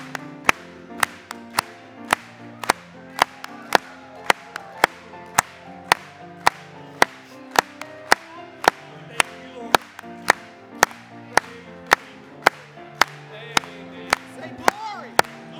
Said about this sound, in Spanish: Vamos a aplaudirle.